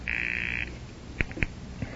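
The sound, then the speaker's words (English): A telephone ringing tone on the line of a call placed from a coin telephone: one steady, buzzing electronic burst lasting over half a second, then quiet with two sharp clicks, as if the receiver is being picked up. “I will try to ring your number.”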